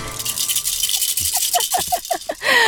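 A baby rattle shaken in a quick, rhythmic run of about eight bright, clattering shakes, moderately loud and with no voices, over a soft background hiss.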